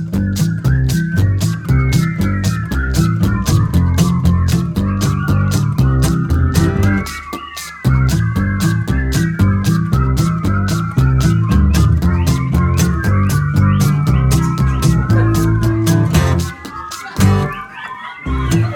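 An audience whistling whatever they like all at once, many overlapping wavering tunes forming a loud, continuous chaotic din with scattered claps and murmurs, briefly dipping before resuming.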